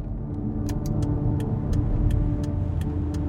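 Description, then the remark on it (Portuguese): A car's steady low engine rumble from inside the vehicle as it drives through an entrance gateway marked Colônia Juliano Moreira, with a regular, light ticking like a turn signal clicking throughout. No one speaks. “O carro em que estou atravessa uma espécie de portal, onde está escrito Colônia Juliano Moreira.”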